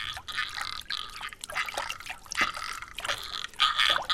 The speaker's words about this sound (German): Sie sehen den Frosch auf einem entfernten Seerosenblatt sitzen. Also überlegen sie nicht lange, springen ins Wasser und schwimmen zu ihm.